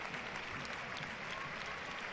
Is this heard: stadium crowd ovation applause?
yes